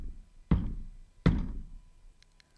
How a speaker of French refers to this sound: Elle traverse un pont de pierre et frappe timidement à la porte.